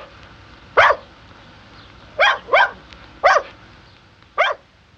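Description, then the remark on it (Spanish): Three very small dogs, named Bebe Agua, Come Queso and Come Pan, bark in short, sharp yips: five quick barks in an uneven rhythm, two of them close together, clear over a quiet background. “Ah, pero no vayan a creer que estos tres perros eran muy grandes.”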